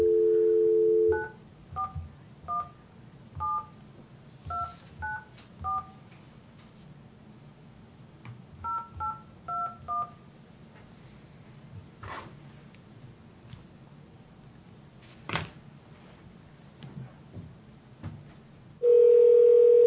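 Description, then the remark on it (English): A steady dial tone opens, followed by two quick bursts of paired-tone keypad beeps dialing a number, a pause with faint clicks, then another tone returns at the end, as the Taney County board members place a phone call. “All right, let's make the phone call and we'll hear from him.”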